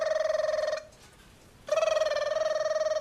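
A telephone rings loudly, two warbling electronic trills separated by a short pause, with no one speaking.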